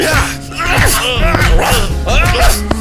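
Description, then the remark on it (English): A dog lets out a steady run of high yips and whiny cries over low, rough growling while fighting, the noises overlapping and never pausing across the few seconds. “Bro, fighting a dog sucks, dude.”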